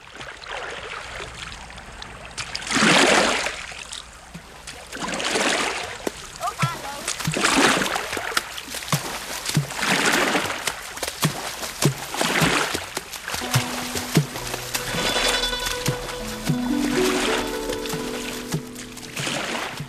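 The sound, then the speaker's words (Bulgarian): A large wooden ship pulls away from the shore in northeastern China, rowed by oarsmen on deck, its oars dipping in steady, rhythmic splashing strokes every couple of seconds, with water sloshing continuously and faint voices joining toward the end. “От брега се отдалечава голям дървен кораб.”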